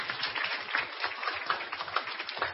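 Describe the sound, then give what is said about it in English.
A steady patter of many hands clapping at once, applause given at the end of a read-aloud story, a dense, crackling wash that holds an even level for a couple of seconds with no voices over it. “Okay, give applause.”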